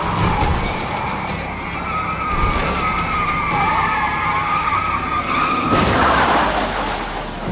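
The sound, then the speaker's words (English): A fleeing car's tires screech in a long, wavering skid as it spins into a tailspin during a police chase after knocking a deputy's SUV into a sedan, the loud squeal rising and falling over engine roar and road noise, ending in a harsher scraping burst. “He knocks the SUV into a sedan, but throws himself into a tailspin.”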